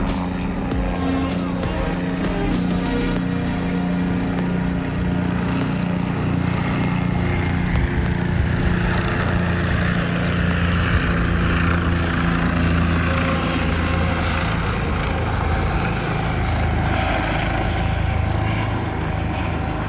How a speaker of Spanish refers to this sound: Ahí va un helicóptero.